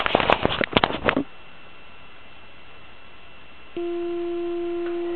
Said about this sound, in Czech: A když to zapnu, tak se transceiver naladí na nejnižší kmitočet, který v současné době je 7030,3. Jakmile zapnu generátor, tak se ozve tón.